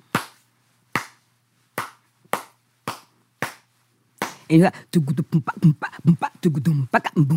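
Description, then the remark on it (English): Six crisp, loud hand claps beat out the cowbell part of a traditional African rhythm called chow, a syncopated pattern with uneven gaps, each clap ringing briefly before the next, then a person starts talking. “Can you just clap out what that rhythm would be like?”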